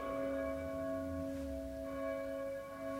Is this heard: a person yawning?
no